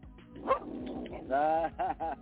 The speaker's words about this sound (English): Oh, Lord, stop it, dog. So anyway. Dog got something to say. Because he sees this beautiful lab that just walked up next to me. It's a beautiful lab.